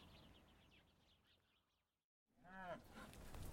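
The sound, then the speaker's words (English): Birds chirp faintly over outdoor noise, then after a brief silence a single loud moo rings out from cows in a paddock, followed by steady windy farmyard ambience. “Let's get these cows in for winter, shall we?”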